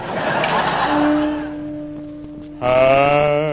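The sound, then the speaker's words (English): A horse neighs in a deep, low-pitched voice, a drawn-out wavering whinny that fades, then bursts back louder and fuller near the end, with no talking. “His horse, of course, is a baritone, too.”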